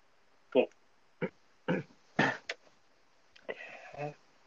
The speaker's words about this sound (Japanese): お、咳払い。